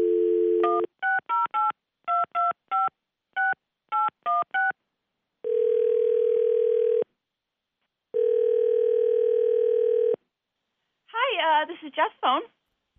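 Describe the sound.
A brief dial tone, then a rapid series of keypad tones as a number is dialed, followed by two long ringback tones of a call ringing out, and a voice answering at the end.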